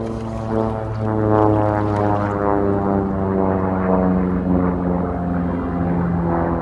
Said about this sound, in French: L'avion combat se rapproche.